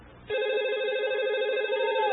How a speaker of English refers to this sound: That damn phone!